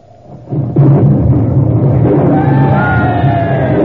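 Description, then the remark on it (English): A sudden loud crack swells into a heavy, sustained rumble of a thunder clap during a lightning storm, with thin whistling tones rising over the roar near the end. “Well, that was thunder, all right.”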